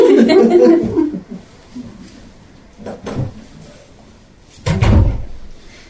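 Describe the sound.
A door shuts with a single heavy thud near the end, as a cat is put out, following a stretch of muffled chuckling and voices.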